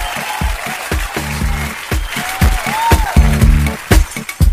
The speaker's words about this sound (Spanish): Un aplauso para el teacher, para su papá, para su mamá de Lago Ranco, que vivieron el terremoto del 60.